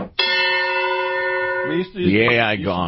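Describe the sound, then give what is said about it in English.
A single struck gong, an "AI gong" sound effect, rings out with a bright, sustained metallic tone for about a second and a half, then people begin talking as it fades. “It's the AI gong.”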